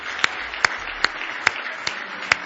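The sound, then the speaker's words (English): A church audience clapping in praise to the Lord: six sharp, crisp claps at a fairly steady beat over a soft, continuous wash of background noise, with no voices. “Give the Lord another good hand clap of praise.”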